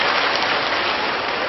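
A crowd at a Buddhist teaching session applauds steadily, praising themselves after a spoken vow, a dense, continuous patter of many hands clapping at an even loudness throughout, with no voices over it.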